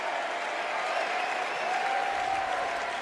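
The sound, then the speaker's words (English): A large convention crowd at the DNC in Chicago applauds and cheers steadily as Senator Tammy Duckworth of Illinois takes the stage. A dense wash of clapping with a sustained high whistle or shout riding over it holds at an even loudness throughout. “Senator Tammy Duckworth from Illinois takes the stage at the DNC in Chicago. And the crowd loving on her.”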